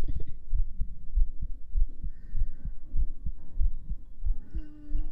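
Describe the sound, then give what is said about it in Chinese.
A fast heartbeat thumps steadily and deeply, roughly eight beats over a few seconds, with a faint tonal hum drifting above it and no voices. “心跳很快，你也心跳很快。”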